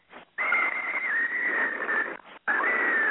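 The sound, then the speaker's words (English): A loud, steady high-pitched whistle holds for nearly two seconds, drops out briefly, then starts again at the same piercing pitch, with no talking over it. “What the fuck is whistling?”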